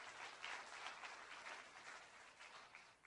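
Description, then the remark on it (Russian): An audience claps steadily for a few seconds for everyone who took part in the work, a dense, even patter of many hands with no voices over it. “Давайте подарим аплодисменты всем, кто участвовал в этом.”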